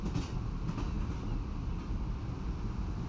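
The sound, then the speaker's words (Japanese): A steady low rumble of a train rolling along rails beside the sea in Hokkaido, Japan, continuous and moderately loud, with a faint rhythmic rattle and no voices. “あ、この先にある駅でしばらく列車を停車させ、この海を眺めつつ、ゆっくりと体を休ませましょう。”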